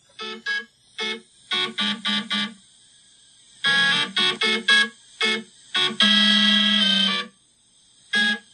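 Stepper motors whine out a buzzy electronic melody in short, rhythmic bursts of harmonic tones, pausing briefly between phrases, then holding one longer sustained note near the end. No one speaks.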